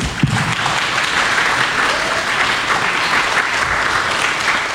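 A crowd at a community meeting applauds steadily, a dense wash of clapping hands that holds at an even, fairly loud level throughout, with a brief louder burst near the start.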